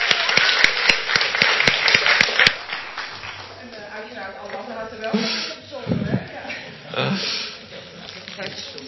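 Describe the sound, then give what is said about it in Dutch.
A short burst of audience applause, dense and fairly loud, dies away after a couple of seconds, and people start talking. “Dus nogmaals even een applaus”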